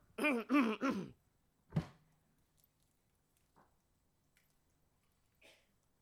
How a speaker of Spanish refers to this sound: Déjeme tomar un poquito de agua.